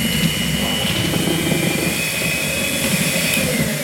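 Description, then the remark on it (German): An electric hand mixer runs steadily with a constant buzzing motor hum and a thin high whine, holding an even, loud level throughout with no speech. “Handrührgerät, Handrührbesen, so ein Pürierstab, der blitzt Dings nicht, oder?”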